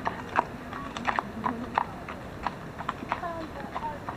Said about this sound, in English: horse, Sergei, walks around the barn on a chilly autumn evening